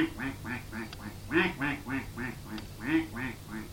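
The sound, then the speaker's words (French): Ducks on a pond quack in a quick, continuous series of a dozen or so nasal calls, fairly loud, with a few louder bursts standing out and no talking. “Et voilà qu'ils continuent, et ils arrivent près d'un étang. Et sur cet étang, il y avait des canards. Et ils entendent.”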